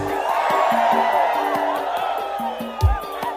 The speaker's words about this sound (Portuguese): Agora eu vou pegar a verdade dos homens. Cadê o grito dos homens fiel aí? Cadê?